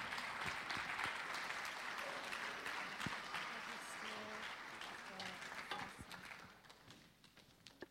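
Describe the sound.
An audience applauds as a woman speaker comes forward to bring the word this morning, a steady wash of clapping that stays strong for several seconds, then thins out and fades toward the end, with a few voices faintly audible underneath.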